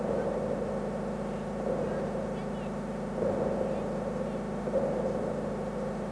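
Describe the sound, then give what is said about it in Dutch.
A steady electronic audio reference tone for aiming a telescope drones continuously, a low buzzing hum with faint wavering overtones that swells slightly now and then, holding at an even, moderate level throughout. “Geef mij eens een audioreferentie voor het richten van de telescoop.”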